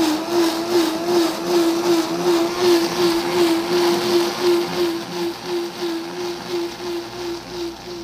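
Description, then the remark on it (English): A blender motor runs steadily at high speed, whirring loudly with a slight pulsing churn as corn kernels cooked very soft in milk are pureed, continuous throughout with no voices. “And then it goes into the blender and we make a puree.”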